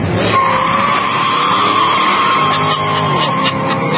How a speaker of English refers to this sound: He's posted videos where he's revving the engine of his Corvette in Wilmington.